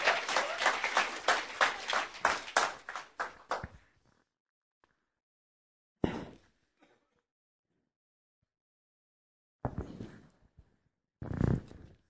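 An audience claps for about four seconds to welcome guests who came from Olomouc, a dense burst of applause that fades out quickly, followed by near silence broken by a few brief, scattered thumps and rustles.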